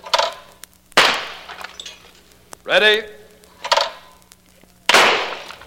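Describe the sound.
Two loud, sharp shotgun blasts, spaced about four seconds apart, each a broad crack that decays quickly, as a shooter fires the only two shells loaded at two birds and hits both. A man's voice speaks briefly between them.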